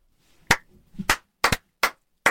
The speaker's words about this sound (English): So I'm giving that a slow clap into a big clap.